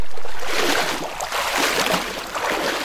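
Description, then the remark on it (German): Steady rushing and sloshing of river water as a man wades knee-deep through the current of the Dünnern river in the canton of Solothurn, Switzerland, with bursts of splashing rising and falling and no voices. “Stefan Bauer wartet durch die Dünnern. Knietief steht der Schweizer in dem Fluss”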